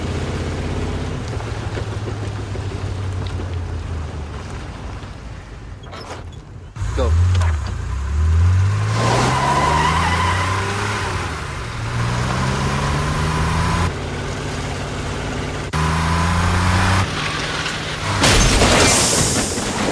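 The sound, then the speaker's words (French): A car engine revs repeatedly, its pitch climbing and dropping in surges, then a sudden loud crash near the end, in a staged film reenactment of James Dean's fatal car crash in a David Cronenberg film. Voices can be heard talking underneath. “Pour eux, l'extase érotique s'obtient dans des accidents de voiture, comme dans cette scène où on rejoue l'accident fatal qui a fait de James Dean une légende d'Hollywood.”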